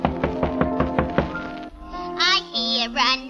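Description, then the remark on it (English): A quick, even series of about seven thunking knocks on a door, made by a character arriving home in the first act of an opera, sounds over sustained musical tones, then stops as a high singing voice with wavering vibrato comes in. “He knocks on the door.”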